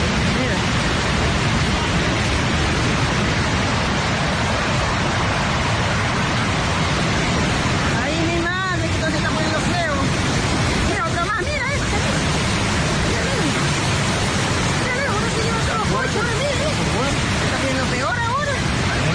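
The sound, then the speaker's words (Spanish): A loud, continuous roar of ocean surf rushing and crashing as a wave surges up over a pier where people and cars are reached by the water, filling the whole clip, with a few brief voices calling out faintly beneath the churning water. “Se ve como al final el oleaje sube al muelle y había personas allí, además de coches a los que les llegó el agua.”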